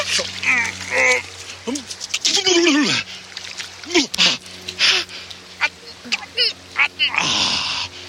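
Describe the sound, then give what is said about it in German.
Water splashes and sloshes in bursts as someone wades into a cold stream for ice bathing, broken up by sharp gasping yelps and exclamations from voices, with a steady trickle of running water underneath. “Ich könnte noch mal in den Bach gehen.”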